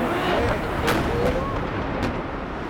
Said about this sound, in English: Footage of the second plane hitting the South Tower. Boom!